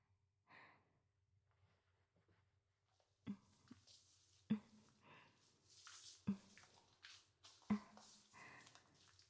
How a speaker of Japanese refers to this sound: 背中ね、よく洗ってあげるわ。広い背中、もっと大きくなりそうね。それじゃ、泡つけるからね。